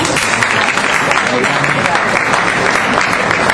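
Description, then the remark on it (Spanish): An audience applauds at an award ceremony as the Silver Shell for Best Director goes to Nick Broomfield for Battle for Bandita, a dense, steady wash of many hands clapping at an even loudness for a few seconds, with a faint murmur of voices blended in. “Batalla de David, el mejor director Nick Broomfield, no muy aplaudido.”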